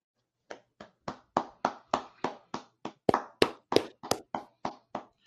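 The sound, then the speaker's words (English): A pair of hands claps for NFL quarterback Joe Flacco, about seventeen sharp, crisp claps at an even rhythm, growing a bit louder midway, with no talking. “Can we just clap our hands for Delaware's finest?”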